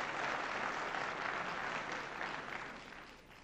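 An audience applauds with dense, steady clapping that holds strong for a few seconds and then begins to taper off toward the end, with no voices over it.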